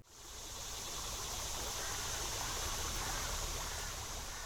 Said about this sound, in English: Skull Creek in Midtown Fayetteville flows freely following a late summer shower. This creek, like Mud Creek and others throughout northwest Arkansas, is bordered by bike trails that will be part of the Razorback Regional Greenway.